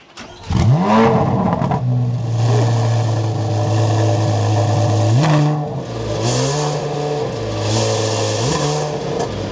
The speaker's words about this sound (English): And then, of course, you've got a very different engine, being a flat plane crank. So this is more. Yeah. Let's say this is more of a Ferrari than a Corvette, at least in the way it sounds. And you want to start up and let's listen to it.